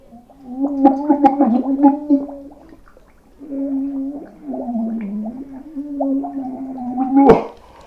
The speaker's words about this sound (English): And we're going to start with sparkling water. Oh my god, it's so bubbly. I've got the bowl of water here and I'm just gonna put my face in it.